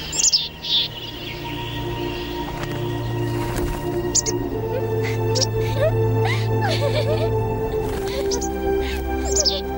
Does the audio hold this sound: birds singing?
yes